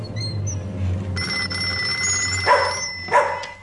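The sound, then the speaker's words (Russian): At night, a telephone bell starts ringing about a second in and keeps up a steady, high ring to the end, with two short barks cutting through near the close. No one speaks. “Что случилось? Телефон? Ночь, кому же я понадобился?”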